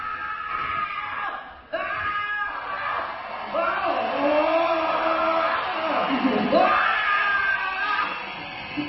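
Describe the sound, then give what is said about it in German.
A loud, drawn-out human scream with wavering, rising and falling pitch that carries on for several seconds, briefly breaking off before surging again, intense; it is the winning video of the first international scream contest. “des ersten internationalen YouScream-Preises gekürt. Es gibt natürlich keine Siegerin, aber dann doch wieder eine Siegerin. Das ist das Siegervideo.”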